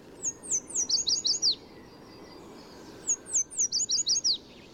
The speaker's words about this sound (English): In spring and summer, yellow warblers sing from treetops in city parks and streamsides from Mexico to Canada. These lemon-yellow birds especially love willow trees near running water, perfect for building a nest and finding food.